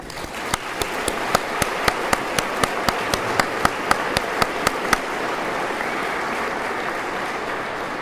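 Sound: round of applause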